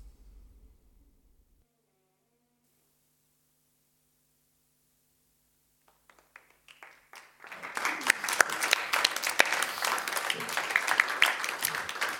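Paper noises in a sound piece by Dinah Bird: after a low rumble and a long near-silent stretch, a few sparse crinkles build into dense, loud crackling and rustling with sharp snaps, continuing steadily to the end.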